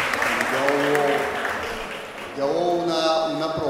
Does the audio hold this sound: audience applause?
yes